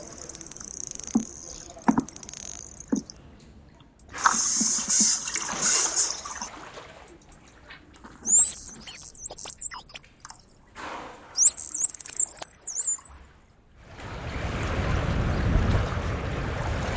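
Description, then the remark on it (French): Underwater recording of sharp scattered clicks, then dense buzzing burst pulses, then high warbling whistles that rise and fall, ending in a low rushing wash of water noise. “Donc trois catégories, les clics, les sons plus en rafale et les sifflements.”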